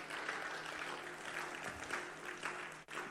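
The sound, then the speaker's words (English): A church audience claps lightly after an announcement that April will be a month of evangelism, a thin, steady patter of many hands that carries on without building, briefly dipping just before the end. No voices stand out. “Your clapping is very weak. Your clapping is suspicious.”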